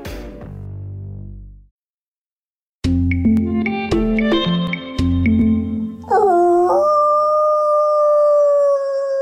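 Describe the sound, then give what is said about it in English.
A man, the head of the Wolf Recovery Program with U.S. Fish and Wildlife, imitates a wolf howl, a practiced call howled into the night to find wild wolves: a long, rising then sustained wavering tone, loud, preceded by a short falling tone, a pause, and a stretch of busier tonal sounds. “One of the tricks he uses to find wild wolves is to howl into the night and see if any wolves howl back.”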